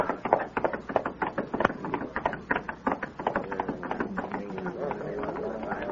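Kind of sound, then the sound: animal, horse hooves clip-clopping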